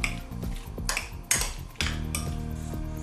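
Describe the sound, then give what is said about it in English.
A utensil scrapes and clatters against a pan as green peas in mayonnaise, thinly sliced red bell pepper, salt and pepper are mixed together, several bright, uneven strokes over a steady low hum, with no one speaking. “Mix well.”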